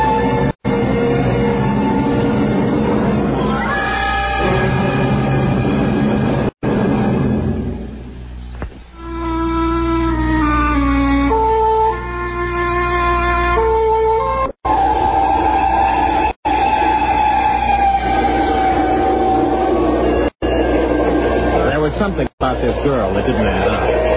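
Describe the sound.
Steady low rumbling of a passenger night train to Paris rolling along the rails continues throughout, with people talking over it and some tonal sounds drifting in and out.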